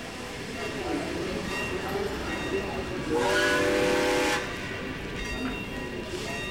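A steam train, train 27 to Berlin, idles at a station at final boarding with a steady hiss and low rumble, then a loud, sustained whistle blast rises for about a second before the hissing ambience continues.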